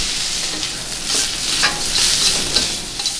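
Grilled goat meat sizzles steadily in a hot pan as it is cooked, a continuous bright crackling hiss with brief louder pops and scraping bursts, as if being stirred. No one speaks.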